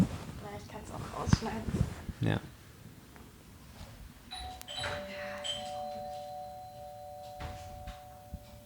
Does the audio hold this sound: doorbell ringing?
yes